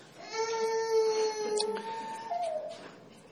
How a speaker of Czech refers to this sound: Teď brečí děti, ale na konci budete brečet vy.